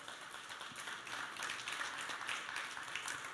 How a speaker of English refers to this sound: Let's give God a hand clap of praise.